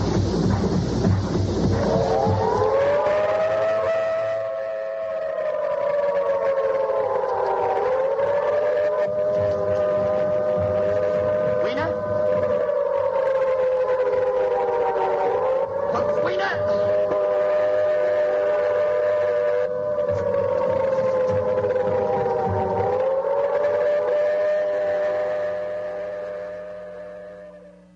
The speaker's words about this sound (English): What you're hearing are the air raid sirens. This brings me to the point, why am I bringing this up? Because when the air raid siren sounds, all of the pampered people, all of these beautiful people, hypnotically march toward their own doom.